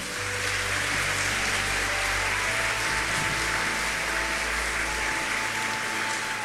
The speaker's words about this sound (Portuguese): Aos voluntários, colaboradores, benfeitores da nossa emissora, a nossa gratidão e a nossa salva de palmas.